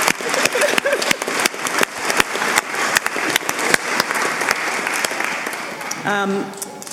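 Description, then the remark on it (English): A group applauds the event's organiser with dense, steady clapping that fills about six seconds, then a voice starts speaking as the clapping fades at the end. “You deserve a round of applause for organising it.”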